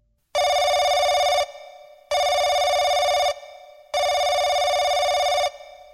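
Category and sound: signal or alarm, telephone ringing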